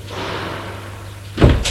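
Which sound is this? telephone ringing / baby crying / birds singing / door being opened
door being opened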